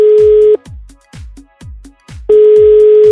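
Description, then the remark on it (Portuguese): A phone line ringback tone while calling a listener who sent a message on Instagram: a steady, loud electronic hum sounds, cuts out for a couple of seconds while soft rhythmic thumps pulse in the gap, then the tone returns. “Então, ouvimos o telefone.”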